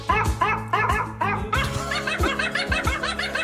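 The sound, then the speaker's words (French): An American Eskimo dog yips and howls in a quick, rhythmic, song-like string of short, pitched barks, loud, with no talking. “Depuis, ce chien de race esquimo-américain est devenu l'un des plus célèbres de l'histoire.”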